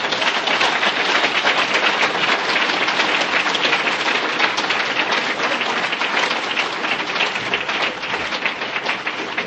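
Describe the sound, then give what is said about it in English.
Sustained audience applause at an alcoholics' recovery meeting, for a speaker who has just shared his recovery story: a dense, steady wash of many hands clapping at even loudness throughout, with no voices standing out. “Could you please have one more round of applause for him?”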